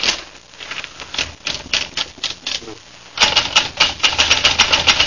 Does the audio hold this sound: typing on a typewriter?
yes